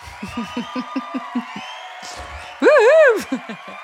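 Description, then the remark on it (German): A short burst of audience celebration: a quick run of rhythmic claps or beats, then a loud, wavering high-pitched whoop of cheering, followed by a few more beats. “Ja, verdienter Applaus.”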